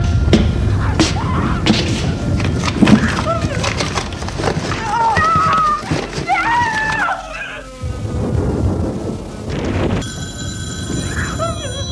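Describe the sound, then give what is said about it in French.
A wooden wardrobe door creaks open amid knocks, thuds and soft rustling as a man puts his linen away in the empty wardrobe; a telephone starts ringing near the end. “Il va ouvrir l'armoire. Comme elle est vide, il peut ranger son linge dedans.”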